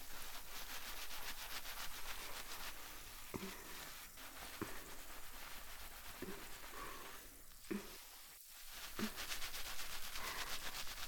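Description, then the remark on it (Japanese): A steady, dense crackling fizz of foam bubbles bursting on the scalp during a scalp care massage fills the whole clip, with occasional soft thumps and rubbing sounds as fingers work through it. No one speaks. “頭皮ケアはもちろんですが、音やシュワシュワ感を楽しめることもポイントの一つですね。”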